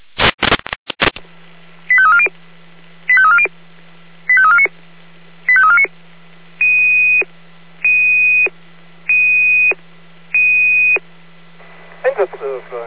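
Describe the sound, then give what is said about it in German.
A sequence of electronic alert tones over a steady hum: four warbling multi-note chirps followed by four longer steady beeps, evenly spaced and loud. It is a radio alarm for the unit Carla, sent at 17:33, about smoke at the Am alten Gericht garden allotment, ending in a brief burst of garbled noise. “Alarm für Carla, 17.33 Uhr Ende.”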